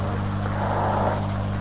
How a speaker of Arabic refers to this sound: شو هاي سيارة؟